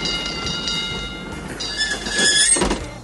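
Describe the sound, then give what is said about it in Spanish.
A streetcar in a North American city rolls along its rails with a steady rumbling clatter, thin metallic squeals rising near the end, then a sharp clank. It sounds fairly loud, with no voices. “Lo mejor es tirar de transporte público y en especial de sus míticos tranvías.”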